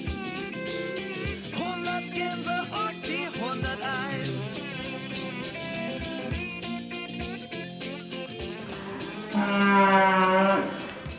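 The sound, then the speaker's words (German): Several cattle, heifers that arrive on the farm at six months old to be raised, moo in overlapping, drawn-out calls in the stable, some deep and some higher, with a loud, sustained bellow rising near the end. Barn background noise runs underneath, with no talking. “Da haben wir die Fersen, also die Rinder, die mit einem Alter von 6 Monaten hierher kommen und dann aufgezogen”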